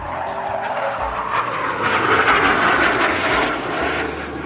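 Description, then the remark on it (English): A loud, continuous roar of RAAF military jets flying over at the Riverfire fireworks show in Brisbane, with a broad rushing hiss that swells in the middle and eases slightly toward the end, steady and unbroken with no voices. “In combination with a killer soundtrack, the roar of jets and the pop of fireworks, Riverfire is an audio-visual sensation.”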